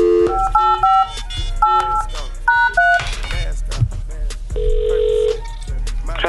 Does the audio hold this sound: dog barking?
no